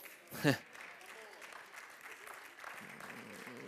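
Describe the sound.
A large church audience claps steadily throughout, a dense wash of applause with a brief louder burst near the start and some voices mixed into the noise.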